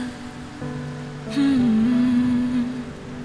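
Steady rain patters in a continuous hiss, with a sustained melodic tone gliding over it partway through; nobody speaks.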